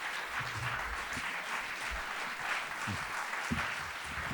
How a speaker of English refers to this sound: Gosh. Thank you. There's a lot of clapping. That was a smooth start.